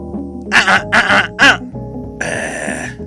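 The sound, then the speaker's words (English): Three quick, rough throat-clearing bursts, followed by a longer raspy harrumph, with a low steady hum running underneath. “Just clear your throat.”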